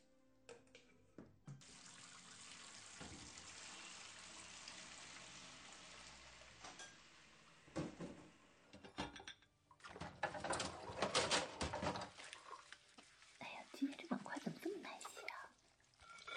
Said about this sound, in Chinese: 哎呀，哎呀，这洗碗的水都溅到衣服上了。可是不用力洗的话，又洗不出来。